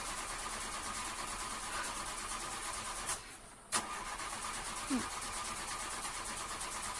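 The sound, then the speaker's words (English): A car engine cranks with a steady, droning whir but never catches, cutting out abruptly for a moment midway with sharp clicks before the labored cranking resumes, fairly loud, in the rain. “My car's not even turning on, so I can't charge my phone.”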